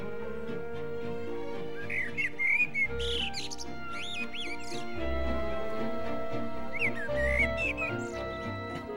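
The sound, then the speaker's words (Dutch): Bright, high-pitched whistling of songs warbles out loudly in quick melodic bursts, chirpy and birdlike, rising and falling over steady background music with a low pulsing beat. “En hij begint heel hard liedjes te fluiten.”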